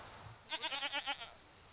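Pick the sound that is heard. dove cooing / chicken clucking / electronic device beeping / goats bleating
goats bleating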